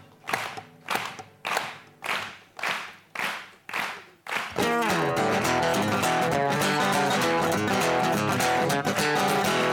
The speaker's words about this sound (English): Can you clap with me? Here we go. 1, 2, 3.